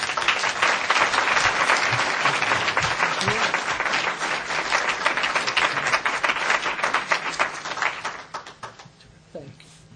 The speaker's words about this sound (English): please join me in applauding it